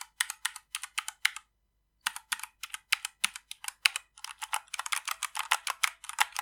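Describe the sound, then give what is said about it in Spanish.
Rapid clacking of mechanical keyboard keys, crisp, in quick bursts with a brief pause, then a faster, denser run of keystrokes. No voices. “Creo que igualmente lo mejor y lo peor que tienen estos teclados son el sonido que hace, el sonido característico de tecla mecánica.”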